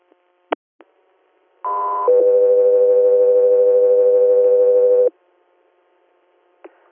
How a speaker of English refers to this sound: Echo 3 here, stand by for tone.